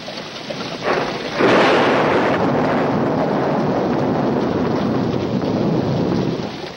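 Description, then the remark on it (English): A heavy thunderstorm under dusky storm clouds with flashes of white lightning: steady rain hisses as a loud roll of thunder breaks in and rumbles on without pause, fading slightly at the end. No voices. “Dusky storm clouds hang overhead, lit momentarily by flashes of white lightning.”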